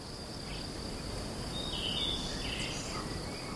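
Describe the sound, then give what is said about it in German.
A steady, high-pitched drone of crickets chirping continuously, with a few faint bird twitters and short calls popping up in the middle, all set against a soft outdoor background with no talking. “Er schnürt die Wanderschuhe und steigt auf in die Berge, dort her, wo die Grillen zirpen und die Vögel zwitschern, wo die Luft sauber ist und es schmeckt nach einem frisch geschnittenen Gras.”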